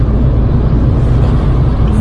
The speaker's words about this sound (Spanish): Empezamos la prueba de fuego dejando morir el coche en quinta para subir el puerto de la Muela. A ver cómo recupera. Vamos a 90 kilómetros por hora.